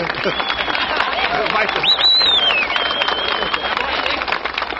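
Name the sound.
crowd cheering and applauding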